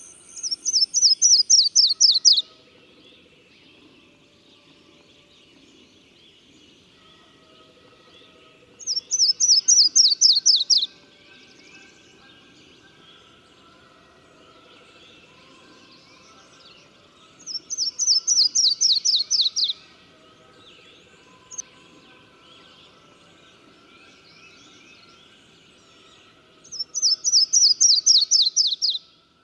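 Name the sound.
yellow-throated warbler song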